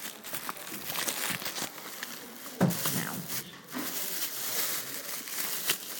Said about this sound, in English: Sorry about the rustling of my bag. I'm just trying to put it in the other hand.